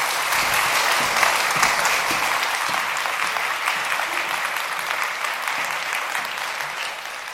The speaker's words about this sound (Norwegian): men tusen takk skal dere ha. Applaus.